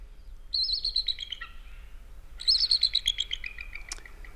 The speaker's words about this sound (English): That is an eagle, followed up by a red-tailed hawk. And the story behind that is most movies that you see will show a beautiful eagle soaring, and they'll play that call, which is red-tailed hawk,